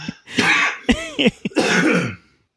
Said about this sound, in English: Nose coughing.